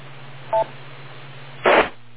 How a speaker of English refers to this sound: Oh, wait for the beep.